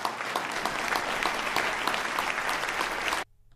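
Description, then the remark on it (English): A crowd applauds steadily after being urged to applaud a speech line about progressive government, a dense wash of many hands clapping at a constant loud level for about three seconds before cutting off abruptly into near silence. “He had to urge them to applaud for the idea of progressive government that leads the nation and that made this state famous.”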